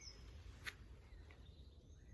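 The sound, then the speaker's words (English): Faint birdsong in the Surrey Hills in the UK, heard while out walking: a few thin, high chirps and short whistled phrases over a low rumble of wind, with one sharp click partway through. “Can you hear the birds? We're currently rambling through the Surrey Hills in the UK.”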